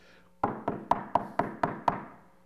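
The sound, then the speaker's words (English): Seven firm knocks on a wooden door in a steady, even rhythm, clear, each with a short resonant thud and no voices. “This person is not going to quit knocking until you get up and say, look, I need some bread.”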